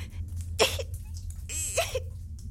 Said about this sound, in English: Look at me, for example. I have this little cough that just won't go away.